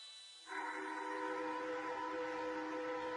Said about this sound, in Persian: صدای فیدوس، اولشی صدا ناآشنان، صدای مزاحمه، هیچ کس بهش عادت نداره، غریبه ها نمیدونن چرا هر روز صبح صدا شنیده میشه. آبادانی ها میدونن این صدای آژیره، آژیر خطرنا، آژیر حاضر شدن سر کار.